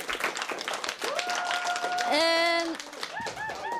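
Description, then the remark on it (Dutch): A crowd bursts into steady, dense applause, with loud cheering whoops and a sustained high whistle rising over the clapping before it starts to thin out. “Ik wil graag een groot applaus voor onze derde expert”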